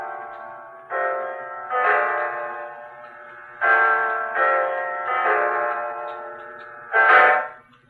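A clock striking nine o'clock chimes with resonant, ringing bell tones, about six strikes at uneven intervals, each note sustaining and overlapping the next, with no voices.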